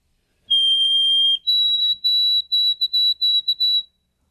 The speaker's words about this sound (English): Oh, sweet Canada, Canada, yeah, Canada. Yeah, maybe. It's possible. Yeah, white-throated sparrow would be one.